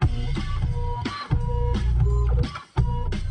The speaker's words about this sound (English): Printer jam.